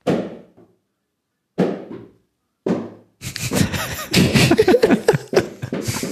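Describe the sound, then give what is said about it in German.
A bouncy ball is slammed onto the floor with full force three times, each a sharp smack with a short ringing decay, spaced a second or so apart, followed by a burst of loud, noisy commotion. “Ich gebe dir einen Euro, wenn du dir jetzt mal volles Mett auf den Boden knallst.”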